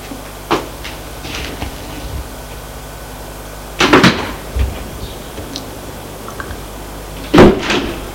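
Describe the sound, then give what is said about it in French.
The front door of a house being opened: a small click, then a louder rattling clatter of the latch and handle, and another sharp knock a few seconds later, all over a quiet, low hum. “Et va ouvrir la porte de la maison.”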